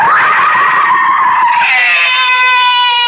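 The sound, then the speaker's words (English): A loud, sustained scream rings out for about three seconds, high-pitched and harsh, its pitch wavering and shifting partway through, with no talking. “Why am I screaming?”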